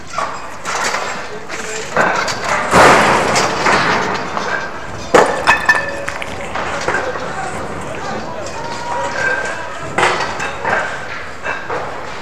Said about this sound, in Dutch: een grote groep mensen, druk bezig om barricades op te bouwen. Barricades van steigerpijpen, hout en autobanden. Er wordt gedisciplineerd gewerkt en de pers is ook grotendeels aanwezig. En ik kan jullie alleen maar wat barricadegeluiden laten horen.